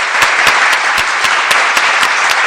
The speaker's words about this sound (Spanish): Oye, vamos a darle un aplauso a estas bandas que hacen tributos, pues ¿os parece?